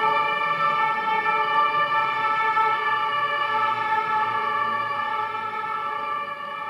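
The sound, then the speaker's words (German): A loud emergency siren outside holds a steady, sustained tone for several seconds, rich and droning, fading slightly toward the end, with no voices present. “Und ich danke dir, Herr, dass ich wissen darf, dass auch keine Sirene uns aus deiner Gegenwart reißen kann.”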